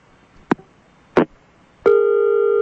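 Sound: telephone dialing tones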